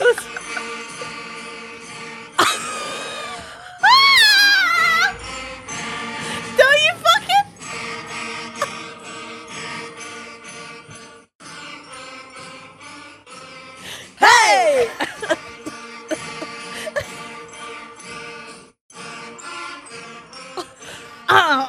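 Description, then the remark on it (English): A sixth grade school band, the whole band including trumpets and trombones, plays Jingle Bells, with layered brass and wind notes, a few wobbly sliding pitches, and loud bursts over a steady, slightly uneven beat. “It was the trombones, not the trumpets. The trumpets did incredible.”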